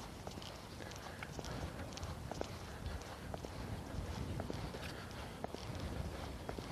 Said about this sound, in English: As it is, I should probably put my big hood up over it because the wind is blowing right through it.